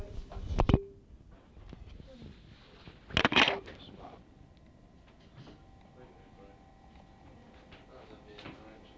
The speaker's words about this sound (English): Man, that door's broken at the bottom, don't force it. It's the wrong size.